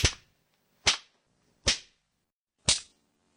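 Four sharp whip cracks land one after another at an uneven pace, each a loud, snapping strike with a quick decay, and no voices in between.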